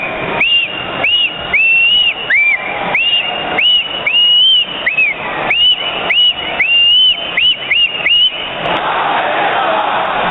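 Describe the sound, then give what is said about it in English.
A large hockey crowd of fans chants in rhythm, started by someone and joined by the whole crowd, punctuated by a series of loud rising whistles repeating about a dozen times in a steady pattern, with arena roar filling the background throughout. “It starts with a whistle. I type in Potvin and it says Potvin whistle on YouTube.”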